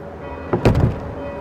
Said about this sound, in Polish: Proszę księdza, dlaczego ksiądz mi zamknął drzwi przed nosem?